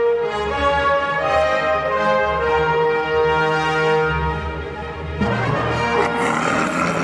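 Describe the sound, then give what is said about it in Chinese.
A loud, drawn-out roar of the tiger Shere Khan, just woken from an afternoon nap after eating, deep and resonant, holds steady for several seconds before breaking into a rougher, grittier growl at the end, with no voices. “很快的就传来了一阵惊天动地的老虎叫声，刚吃饱正在睡午觉的老虎被惊醒，非常的生气。”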